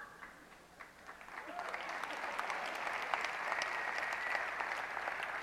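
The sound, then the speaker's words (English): An audience applauds, many hands clapping in a dense, steady patter that swells after the first second and holds fairly loud through the rest, with scattered sharper claps standing out. “A few of you are not clapping.”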